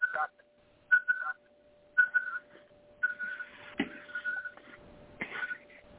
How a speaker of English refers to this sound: But what my device does is goes, hear the beep? Yeah. That is what they call a liquid level indicator. It works on cold drinks as well as hot drinks.